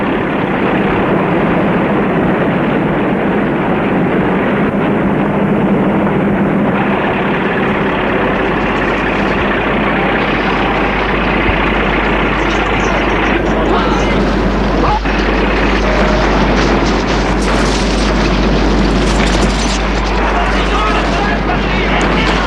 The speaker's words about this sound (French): Il avance dans l'Ukraine, plus la bataille gronde. Il y a l'armée ennemie avec ses avions.